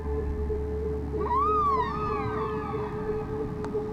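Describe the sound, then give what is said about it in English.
A single whale call from Henry the Hudson Whale of the Hudson River swoops upward and then slowly glides down in pitch, a moaning, harmonic cry lasting a couple of seconds over a steady low rumbling background. “now joined by our friend Henry the Hudson Whale.”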